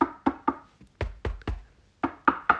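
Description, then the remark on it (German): Knocking on wood: three quick bursts of three sharp, hollow raps each, separated by brief pauses, with no voices present. “Also das scheint anscheinend, Klopf auf Holz.”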